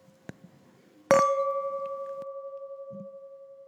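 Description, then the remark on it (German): Two wine glasses of Riesling clink together once in a toast, a bright ringing tone that hums and slowly fades with a gentle wavering. A small tap comes just before, and it is otherwise quiet. “So, wollen wir? Wollen wir. Prost. Prost.”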